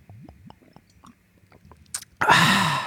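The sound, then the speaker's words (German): A series of soft, wet gulping and swallowing sounds of someone drinking into a microphone, in an irregular rhythm, followed by a louder, breathy rush of air at the end, with no talking. “Ich werde ganz, ganz doll immer ins Mikro atmen, dann hört er mich andauernd am Trinken.”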